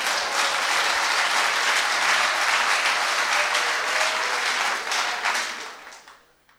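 A crowd applauds steadily for a man, a dense wash of clapping hands that holds strong for about five seconds before fading out.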